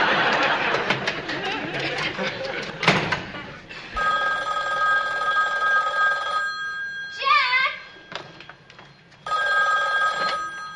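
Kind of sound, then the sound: household object, telephone ringing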